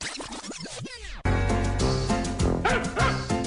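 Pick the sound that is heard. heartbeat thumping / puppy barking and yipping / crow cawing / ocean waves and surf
puppy barking and yipping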